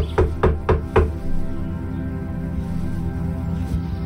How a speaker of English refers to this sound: I wiped the sweat off my palms onto my pants and rapped on the door.